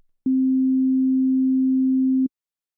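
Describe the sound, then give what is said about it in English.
A single steady, pure sine tone at middle C sounds for about two seconds at constant loudness, starting and stopping abruptly with faint clicks, with silence before and after. “Here is the same middle C note, but this time it is simply a sine wave.”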